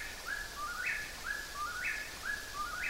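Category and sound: bird, whippoorwill call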